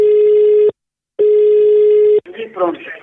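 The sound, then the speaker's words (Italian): A phone line rings through the earpiece as a call is placed to someone in Tuscany, Italy: two long, steady electronic tones separated by a short gap, loud, then a voice briefly comes on the line. “con queste motivazioni noi andremo a chiamare un po' di gente in Toscana, sentiamo un po' come risponderanno, come la prenderanno, che tipo di persone si troverà stamane.”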